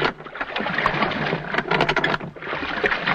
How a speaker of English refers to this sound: A lap of the water is created by using a splash box. This is a tank of water with a paddle in it, which is turned slowly to produce the sound of rowing.